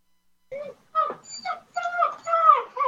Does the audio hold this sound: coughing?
no